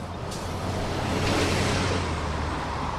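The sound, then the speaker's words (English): A steady, unbroken roar of rushing water from the Winooski Falls, a river waterfall in Winooski, fairly loud, with a low rumble beneath the hiss and no voices. “Nearby are the Winooski Falls, the power source for the mills worked by many French-Canadian immigrants”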